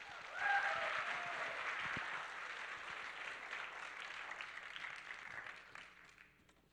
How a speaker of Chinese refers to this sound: 拍手欢迎他们。